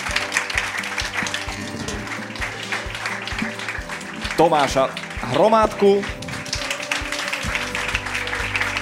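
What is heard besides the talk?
audience applause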